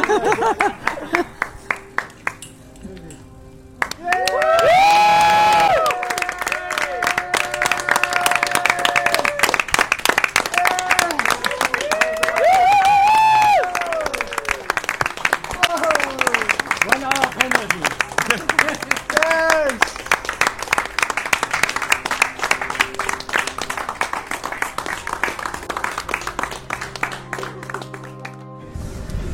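A crowd of riders gathered outside Skipper's Bar claps steadily and cheers as a cyclist crosses the finish line of TCR number 12, with whoops and excited shouts rising over a dense wash of applause that carries on for nearly half a minute.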